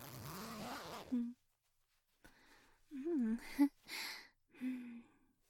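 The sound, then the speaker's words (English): The zipper at the back of a dress is pulled down in one continuous raspy run, followed by soft sighs and hums, with short rustling bursts of fabric between them. “Help me out of my dress. Just pull the zipper in the back.”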